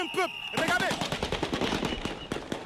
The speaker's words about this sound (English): He is interrupted by gunfire. Members of the Presidential Guard drove by in vehicles, firing in the air to disperse people.